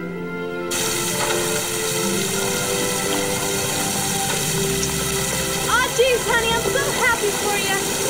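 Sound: pouring rain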